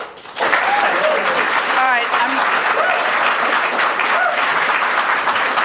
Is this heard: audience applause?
yes